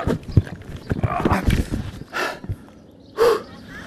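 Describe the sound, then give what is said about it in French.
A heavy electric cargo bicycle carrying 50 kilos of gear clatters and rattles as it tips over, a burst of metallic knocks and scraping, followed by a few loud, effortful breaths and gasps. “Oh la vache, il est lourd. Quand il se renverse ce vélo.”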